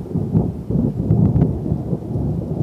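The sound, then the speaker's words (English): A low, continuous rumble of thunder rolls through steady rain from an afternoon thunderstorm, with faint crackly patter of drops on top; it fills the whole stretch without any voices. “Yesterday afternoon, actually, we had thunderstorms come through the area, which I recorded some of their sound.”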